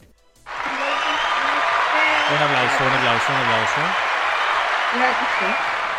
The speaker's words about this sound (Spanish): Esta vez no me atrasé en subir el video. Primera vez, así que me merezco aplauso.